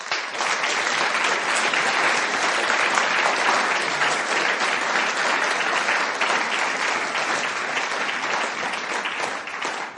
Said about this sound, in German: Das sind Männer und Frauen, die schon so viel investiert haben. Und denen geben wir jetzt gerade auch einen Applaus.